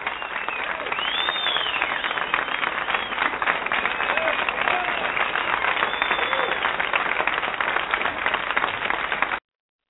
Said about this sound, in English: the crowd goes wild.